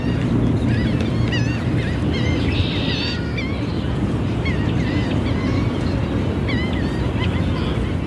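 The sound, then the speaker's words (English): Geese honk repeatedly by a lake in Prospect Park, where people are feeding them, their short nasal calls scattered across the whole stretch over a steady wash of water and outdoor background noise. “By the lake, people are feeding the geese.”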